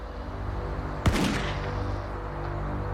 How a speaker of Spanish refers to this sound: Entonces, temprano el 20 de mayo de 1988, un disparo rompió el silencio de la mañana.